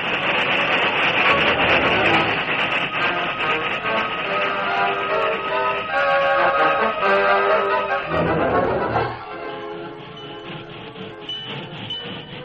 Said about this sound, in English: Then gradually, the work train gathered speed enough to run ahead until the other train could come to a stop.